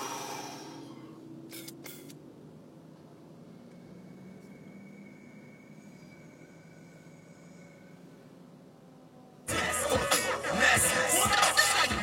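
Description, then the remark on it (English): An asthma inhaler, used here for a lung cough: a couple of quick, sharp puffs early on, a quiet stretch over a low background hum, then a loud, rushing breath drawn in near the end. “use this inhaler, which is, you know, prescribed for asthma stuff, but also seems to help with this weird lung cough thing I've got going on, too.”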